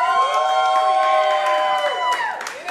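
applause and cheering

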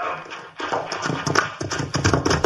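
horse hooves clip-clopping

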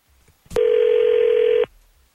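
telephone dialing and ringing

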